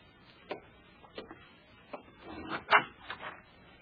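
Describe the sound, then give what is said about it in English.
The door of a shack on the outskirts of Northfield, Minnesota, on 7 April 1876, is opened for Jesse and Frank James, with a few sharp wooden clicks and rattles of the latch followed by a brief scraping clatter. No one speaks. “All right, Bob, open the door for them.”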